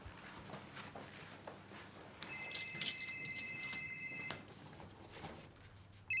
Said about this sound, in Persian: صدا تلفن؟ تلفن با بزرگه.